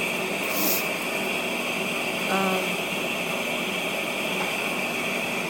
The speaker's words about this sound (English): Not a lot I can do about that in the background. It's the air conditioner.